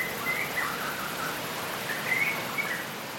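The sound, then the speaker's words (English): Faint, scattered bird chirps, a few short high calls, rise briefly out of a steady, hissing wash of outdoor ambience, with no one speaking. “Wind blowing through the trees, rainfall dripping, insects buzzing, birds chirping.”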